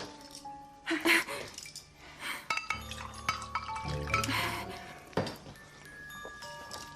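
Water is poured into a glass, with bright glassy clinks before and after as the glass is handled and set down.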